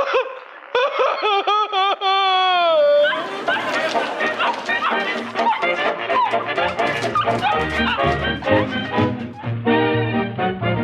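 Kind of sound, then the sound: animal, dog barking and whimpering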